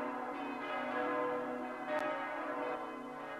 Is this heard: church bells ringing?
yes